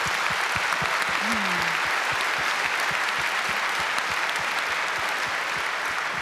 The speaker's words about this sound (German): Gut, vielen herzlichen Dank für diesen Vortrag. Ich bitte noch einmal um Applaus